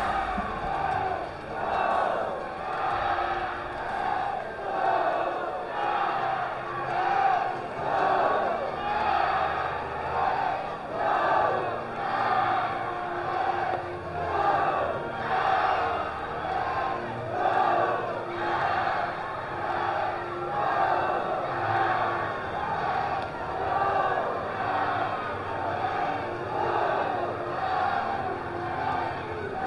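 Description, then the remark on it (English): A baseball crowd at a Lugnuts game against the Lake County Captains, at the start of the bottom of the ninth inning, cheers and yells in a loud, continuous roar lasting the whole half minute, swelling and dipping in a steady rhythm, with no single voice standing out. “The crowd is ready.”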